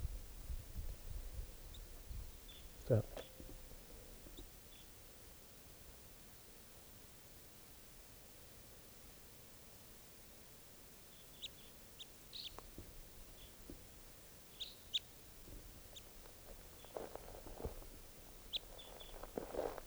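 Faint, scattered bird calls, brief high chirps coming in small clusters mostly in the latter half, over a steady background hiss with a few low thumps and no talking.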